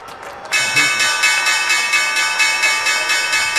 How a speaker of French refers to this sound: D'ailleurs, attendez, on va écouter ces applaudissements, François. Oui. C'était à la clôture de Wall Street hier soir.